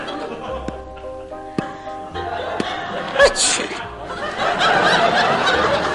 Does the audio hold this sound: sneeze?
yes